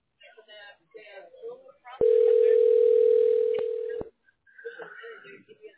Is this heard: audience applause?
no